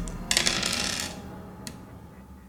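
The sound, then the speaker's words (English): Dice, rolled against a player's power, clatter across a hard tabletop in a quick burst of rattling clicks lasting under a second, followed by one small final tap as they settle, with no talking; the roll comes up 99. “So go ahead and roll against your power.”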